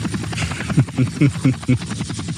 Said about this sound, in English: Wait, hold on a second. We need a lawnmower sound effect is what we need.